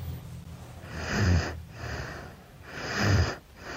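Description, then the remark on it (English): A baby girl snoring loudly in bed, with two rough, rattling snores on the inhales and softer breathy exhales between them in a steady sleeping rhythm, and no talking. “I don't think it's normal for a baby to snore like this.”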